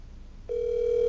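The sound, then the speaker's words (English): A phone call's ringing tone comes over a speakerphone, a single steady electronic tone that starts about halfway through and holds to the end over faint background hiss, with no talking. “Put it on speaker so everybody can hear this.”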